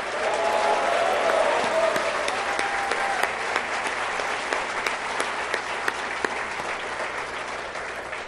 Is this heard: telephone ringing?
no